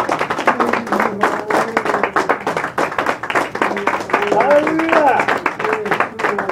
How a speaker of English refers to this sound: Let's go ahead and give my hand clap of praise and worship. Thank You, God. Thank You, Lord. You're worthy, Lord God.